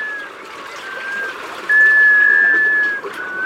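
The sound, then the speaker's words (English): A black scoter's plaintive whistled call: a faint drawn-out note, then a louder, steady, mid-pitched whistle holding for over a second, over a constant wash of water-like noise. “An unmistakable clue to their presence? That mysterious musical whale.”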